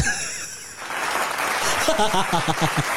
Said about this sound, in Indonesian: Eh, bentar. Apa tuh? Mau tepuk tangan dulu.